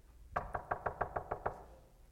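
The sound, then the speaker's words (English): A quick, evenly spaced series of about eight firm knocks on a door, fairly loud, with no talking, fading into quiet afterward. “Bible says he come knocking on the door.”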